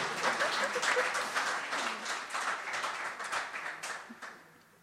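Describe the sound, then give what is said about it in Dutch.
A crowd applauds itself with dense, steady clapping that holds strong for several seconds, then gradually thins and fades out toward the end. “Applaus voor jezelf.”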